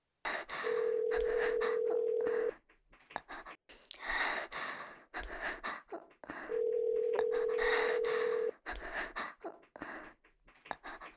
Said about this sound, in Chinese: 又给男朋友打电话？